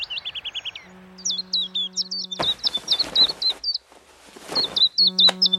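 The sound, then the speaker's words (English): Gangs of old and young swifts scream overhead around a town on a sunny summer evening, in rapid bursts of shrill, high-pitched calls, rising and falling in quick series, with a low steady hum and rushing, noisy gusts in between. “And last of the spring arrivals for me is the swift, which really marks a sunny summer evening with gangs of old and young swifts screaming around the town, making a screaming noise like a squadron of fighters.”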